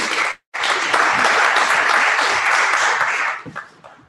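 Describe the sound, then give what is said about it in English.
An audience applauding steadily for a participant who played a witness in a Bible story activity, a dense wash of many hands clapping at once after a brief gap at the start, then tapering off into a few scattered claps. “Round of applause for”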